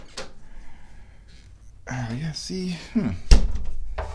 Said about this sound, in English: This is going to be difficult trying to close the door. There we go.